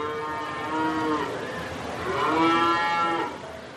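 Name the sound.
cows mooing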